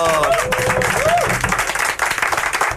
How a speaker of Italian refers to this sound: E allora, applauso!